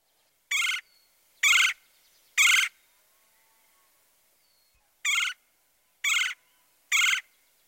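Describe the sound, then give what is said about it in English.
Red-headed and red-bellied woodpecker calls ring out loud: the raspy, high-pitched queer of the red-headed woodpecker and the lower-pitched, trilled chirr of the red-bellied woodpecker, harsh notes in two sets of three evenly spaced calls separated by a short pause, with no talking. “Remember, the raspy, high-pitched queer of the red-headed woodpecker and the lower pitch, trilled, chirr, chirr, of the red-bellied woodpecker.”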